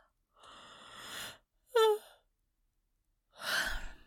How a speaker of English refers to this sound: My yawns mean nothing. It doesn't mean I'm tired.